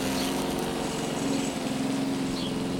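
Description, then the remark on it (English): Robot lawnmowers cutting grass to be converted into fuel pellets make a steady, droning mechanical hum with a constant pitch and even loudness, running continuously without pauses and with no voices present. “That's right, those robot lawnmowers you see in front of you are cutting the grass and converting it into fuel pellets that can be burned in special generators to heat the buildings all around you.”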